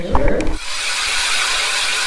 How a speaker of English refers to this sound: In order to answer this question, we visited Trees for Tomorrow in Eagle River, where educator Todd Starling took a group of Rhodes Scholars fishing on Silver Lake. You want to go onto the lake and start drilling some holes?